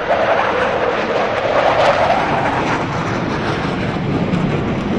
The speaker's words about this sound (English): Typically, at a grave site, as an airman is being laid to rest, you will have four airplanes suddenly appear, fly over the grave site, and one of the airplanes will then pull up very abruptly and climb nearly vertically into the sky.